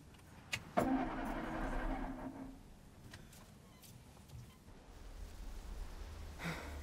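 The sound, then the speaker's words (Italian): A car engine cranks with a sharp starter burst near the start, then catches and settles into a steady low idle that swells slightly toward the end, with no talking. “Mettilo in moto!”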